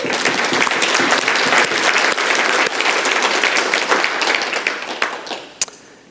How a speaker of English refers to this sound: Give yourselves a big hand clap.